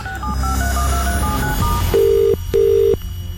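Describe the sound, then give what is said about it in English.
A rapid run of keypad dialing beeps gives way to the ringback tone of an outgoing call: two steady, buzzy rings in quick succession, clear with no voices. “Please, just answer the phone.”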